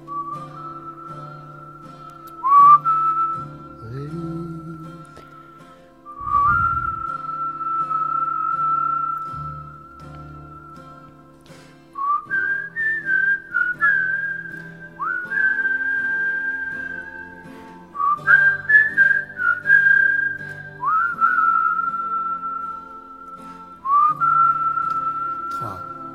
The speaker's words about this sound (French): Mon Dieu, que c'est triste, mais que c'est beau. C'est sifflé, donc là, on va s'amuser à siffler. On peut écouter un petit passage